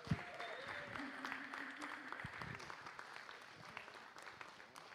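A standing church audience breaks into sustained, dense applause for the preacher, many hands clapping steadily for several seconds with a few faint cheers and voices mixed in.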